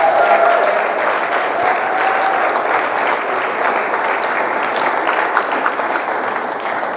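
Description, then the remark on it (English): A church audience applauds for Jesus during a morning service, steadily for several seconds, a dense, even wash of many hands clapping at a constant loud level with no talking over it. “but if you believe the Lord is just really faithful, I want you to give Jesus a hand clap this morning.”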